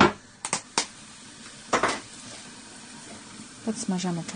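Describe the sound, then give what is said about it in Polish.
Peeled garlic sizzles in hot oil in a frying pan with a steady, soft hiss, broken by a few sharper crackling bursts early on; a brief voice-like murmur rises near the end. “W związku z tym obieramy najpierw czosnek, a później podgrzewamy trochę oleju na patelni i wyrzucamy na chwilę czosnek.”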